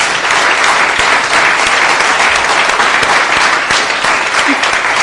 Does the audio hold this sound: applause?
yes